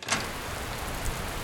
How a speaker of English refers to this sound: Morning, all. Still raining, is it? Oh, well, let's just get out of the rain and have a nice hot cup of coffee.